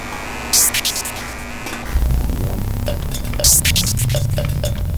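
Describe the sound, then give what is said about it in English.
Power lines hum steadily with an electrical drone as wind passing over makes them vibrate, joined by a deep throbbing rumble partway through and punctuated by brief crackling, hissy bursts; no voices. “Power lines seem to have an all-pervasive hum.”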